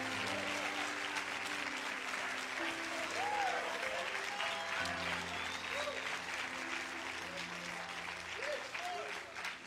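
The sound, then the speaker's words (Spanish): An audience claps loudly and steadily for the Lord for the full stretch, a dense wash of applause with scattered voices calling out underneath and low sustained musical tones beneath the crowd. “Si usted cree que ese pacto es mejor que ese, denle un aplauso fuerte.”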